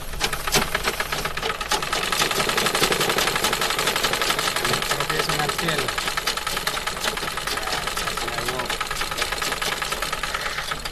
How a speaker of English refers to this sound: Yeah, and on the table in front of us... This is my sewing machine.